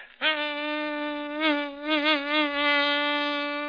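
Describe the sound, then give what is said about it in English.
A steady vocal imitation of a mosquito buzzing in flight, as it flies into a grocery store and lights on a small lump of sugar: one continuous nasal whine that starts abruptly and wavers in pitch and loudness a few times, with no talking. “It was about a mosquito flying into a grocery store, lighting on a small lump of sugar, and it went something like this.”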